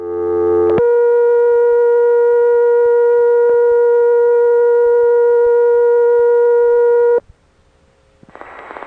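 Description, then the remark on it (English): A telephone exchange's high tone, recorded in the Morgantown, Pennsylvania telephone office, sounds as a loud, steady, buzzy hum with bright overtones. It holds unbroken for about six seconds after a brief lower tone, then cuts off abruptly. “I'll go right to the place where the high tone starts.”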